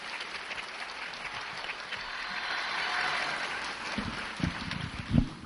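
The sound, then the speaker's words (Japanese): Steady applause from a lecture audience welcoming a speaker, a dense wash of many hands clapping that holds for several seconds, with a few louder thumps and knocks near the end. “温かいご声援ありがとうございます。”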